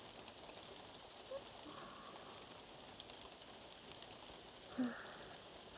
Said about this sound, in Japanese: やっぱり雨降ってきましたね。ザーザーって屋根を叩いているのが聞こえます。